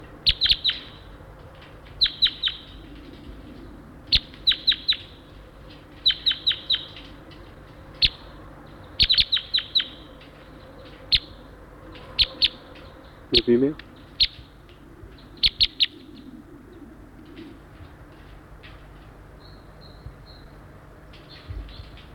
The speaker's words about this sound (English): I hear a wild crossbill down the hollow a ways.